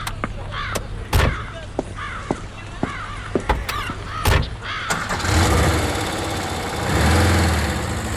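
A car engine idles with a steady low hum, while crows caw repeatedly overhead and a few sharp clicks and thumps ring out; the rumble swells louder toward the end, as two co-workers walk to the car after dinner.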